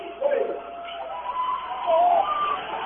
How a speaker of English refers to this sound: You hear the Raven fans in the background. They're trying to get their team wound up.